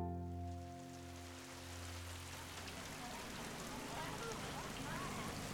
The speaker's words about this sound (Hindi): बारिश इतनी तेज थी कि वहां का नजारा बहुत सुंदर लग रहा था।